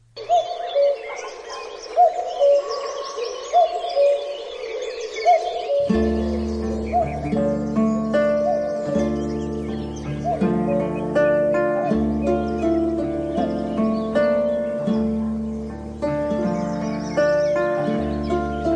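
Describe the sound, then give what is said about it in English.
A British migratory bird's spring call, heard on its northern migration in spring, repeats in short, clear notes over a soft outdoor backdrop, then a full musical accompaniment with steady bass comes in and carries on beneath the calls. “An iconic British bird that arrives in its northern migration in spring and heads south again after breeding.”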